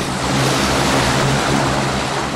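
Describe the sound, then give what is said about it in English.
A twin-propeller turboprop plane bound for Boston roars loudly and steadily as the pilot starts its engine, a dense rushing noise over a low, throbbing drone, with no voices. “One of the planes, destined for Boston, is a turboprop with two propellers. The pilot climbs aboard, starts the engine, and sends a deafening noise through the air.”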